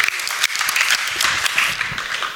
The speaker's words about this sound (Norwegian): En liten applaus